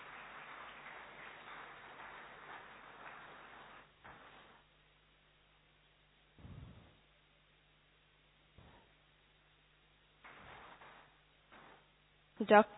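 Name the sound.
audience clapping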